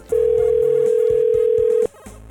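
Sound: phone call ringing unanswered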